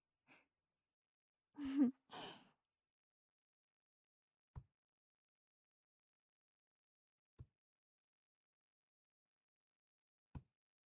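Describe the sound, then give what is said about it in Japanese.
After a soft breathy exhale, three quiet taps land at slow, evenly spaced intervals, each short and dull, with silence in between. “こうやって一定のリズムを聞いたり叩かれたりすると体の力が抜けてリラックスできるんじゃないかな。トントントントンって。”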